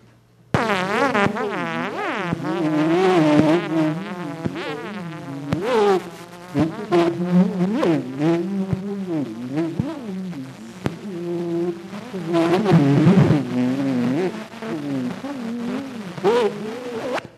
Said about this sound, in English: Here's with the tuning fork track added. For technical reasons, I had to take a different approach to this that made it sound a lot like the buzzing of a little bee.